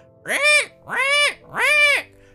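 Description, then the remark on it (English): A person imitates a pig with three loud, drawn-out squealing cries, each rising then falling in pitch, evenly spaced with short pauses between, and no other sounds around them. “I want to say … is making those noises herself.”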